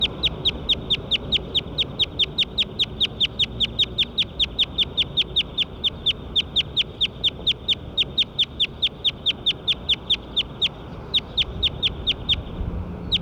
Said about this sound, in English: Start recording bird 9 again. 9.